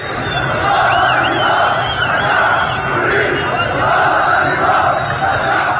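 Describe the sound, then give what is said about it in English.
Crowds of opposition supporters chant slogans against the government overnight in a suburb of the northwest city of Jisr Shagur, a loud, continuous roar of massed voices, swelling slightly at moments, with a chant-like cadence rising out of the din. “Small crowds of opposition supporters chanted slogans against the government in a suburb of the northwest city of Jisr Shagur overnight”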